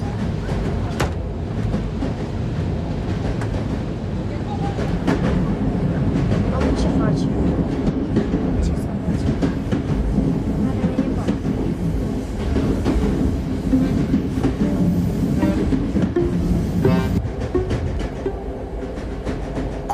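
A train arriving at Cluj, Romania runs steadily on its rails, a loud, continuous low rumble with sharp irregular clacks and rattles of the wheels and cars cutting through it.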